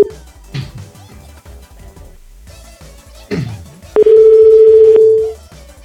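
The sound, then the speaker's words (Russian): A loud, steady telephone tone sounds for about a second over cluttered, music-like background noise, then cuts off abruptly. It resembles a dial tone. “Я бы, кстати, с таким телефоном рыдал просто, его набрать невозможно.”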